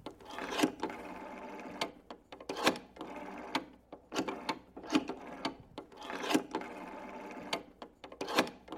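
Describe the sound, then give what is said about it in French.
The rotary dial of an office telephone is turned again and again to dial a number, each spin giving a short whirring, clicking rattle as it winds back, in a steady series of moderately loud bursts with no one speaking. “Mais vous ne regardez pas le numéro que je compose.”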